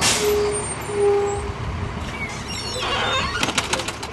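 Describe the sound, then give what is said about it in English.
A bright blue and green city bus rumbles up to the curb on a street in Durham, North Carolina, at 7:15 in the morning with a sharp hiss of air brakes, then a burst of clattering and pneumatic hissing as its doors fling open, over steady street noise and faint bird chirps. “A bright blue and green bus rolls up to the curb and flings open its doors.”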